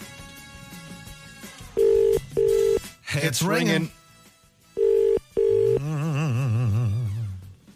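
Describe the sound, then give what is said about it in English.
An outgoing phone call from Today FM to a rugby TMO ringing out: two pairs of steady electronic ring tones separated by a pause, with a burst of muffled talk between them and a wavering voice-like tone at the end. “It's ringing.”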